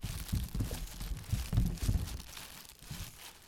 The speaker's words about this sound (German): Doch es ist ein trüber Herbsttag und dunkle Wolken ziehen auf. Plötzlich fängt es an zu regnen und ein erstes Grollen ist zu hören.